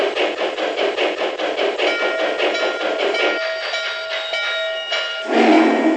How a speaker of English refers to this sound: 611 Steam Excursion is approaching the station. Please be ready to board.